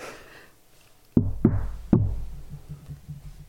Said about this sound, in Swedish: Så hör jag bara att det är någon som knackar.